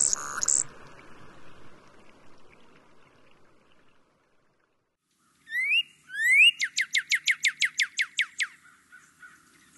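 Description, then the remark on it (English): After a few seconds of soft background noise, a bird on its breeding ground gives a couple of rising upslurred notes and then a loud, fast rattling series of about a dozen harsh, buzzy pulses, a vocalization given only on the breeding ground. “The only place you'll get this vocalization is on their breeding ground.”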